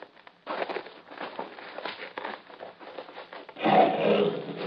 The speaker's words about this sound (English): He is a Nubian lion. Yeah, that's what I figured.